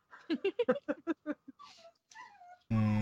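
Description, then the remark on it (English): A dog whimpers, a run of short, pitched yelps giving way to thin, drawn-out whines, then a sudden loud burst of sound cuts in at the end. “It's my dog.”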